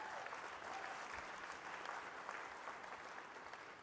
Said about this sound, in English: so give her a big hand clap.